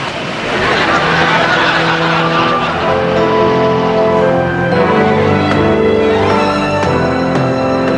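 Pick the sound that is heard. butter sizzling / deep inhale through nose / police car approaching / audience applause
police car approaching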